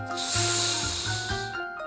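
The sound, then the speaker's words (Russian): A voice holds a steady, sustained hissing "sss" for nearly two seconds, bright and breathy, over a soft tonal background with no words spoken, demonstrating the Russian "с" sound in a lesson on pronouncing it correctly. “На что похож звук «с»? На ветерок, который свистит за окном.”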